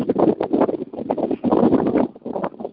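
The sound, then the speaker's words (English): Wind buffets a microphone in irregular gusts, producing loud rumbling whooshes and rough crackling bursts that rise and fall for a few seconds with no speech. “Sorry, it's windy.”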